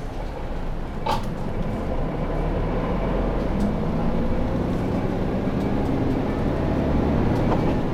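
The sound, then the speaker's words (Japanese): A steady, loud low rumble of a Keisei Bus city bus engine on the Natsumi line, route 11 bound for Makuhari Hongo Station, fills the cabin from inside as the bus turns left in the rain, droning continuously with a brief faint clatter early on and no one speaking. “このままバス左へ曲がります。”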